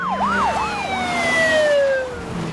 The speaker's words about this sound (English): A line of police cars arrive at the pier.